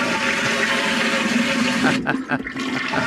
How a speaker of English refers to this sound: We got two or three toilets. That's a double flush. That's a courtesy flush with a regular flush.